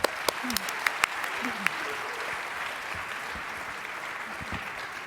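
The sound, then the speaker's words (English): A crowd claps steadily for about five seconds for the speakers before a talk begins, a dense, even patter of many hands with a few sharper individual claps standing out and faint voices murmuring underneath. “So a round of applause for our amazing speakers, and let's begin the talk.”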